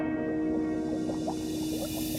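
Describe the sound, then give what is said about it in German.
Steady background noise aboard a boat on the Red Sea: a continuous low hum with soft gurgling and dripping water sounds scattered throughout, even in level, with no one speaking. “Ich habe es jetzt nämlich hier auf dem Boot, auf dem Roten Meer gemacht.”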